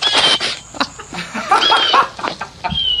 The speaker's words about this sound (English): Is it loud? Is the bird loud? Hey! It's right there.